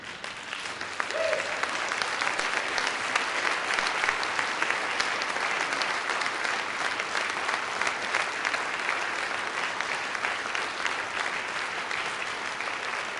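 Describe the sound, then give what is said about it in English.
Sustained audience applause at a Society of Environmental Journalists gathering, for the board of directors standing to be recognized; a dense crackle of many hands clapping at a steady level for the whole stretch, with no speech over it. “All the members of the Board of Directors of the Society of Environmental Journalists, please stand and remain standing, and please don't hold your applause till the end.”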